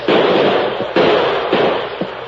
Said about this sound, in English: Fraser gave the order to open fire. Pour it into, man!